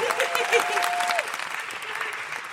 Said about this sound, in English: Jess, thank you so much for coming on. Huge round of applause for Jess Robinson.